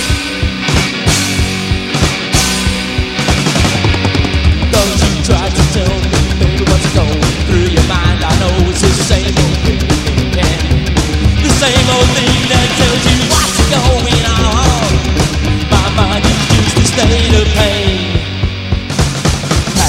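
Loud, fast psychobilly band music with driving drums and bass, topped by raw, wildly shouted and screamed vocals that run continuously over the dense instrumentation.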